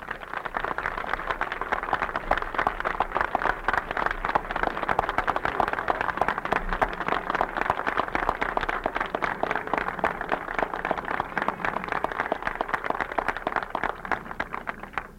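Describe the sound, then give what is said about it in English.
An audience cheers and applauds steadily for about fifteen seconds as the General Campaign Chairman is introduced, a dense wash of rapid clapping mixed with loud voices that never lets up or fades. “I certainly thank you, and that cheer certainly gave me a thrill.”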